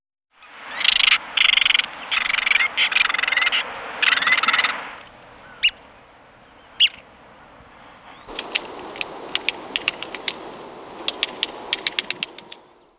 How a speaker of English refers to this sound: Red-cockaded woodpecker.